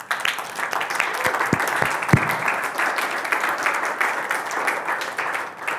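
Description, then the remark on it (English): A large group applauds in thanks with steady, dense clapping that fills the whole stretch at an even, fairly loud level, broken early on by a few dull low thumps of a microphone being bumped. “I'm going to ask that you clap.”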